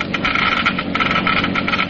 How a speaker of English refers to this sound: You have just heard Geiger counters clicking off the scientific proof that new RPM motor oil is years ahead.